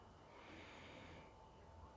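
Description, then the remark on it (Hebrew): A slow, deep breath drawn in during a guided seated relaxation, a steady airy rush lasting about two seconds with no talking. “אפשר רגע לקחת נשימה עמוקה,”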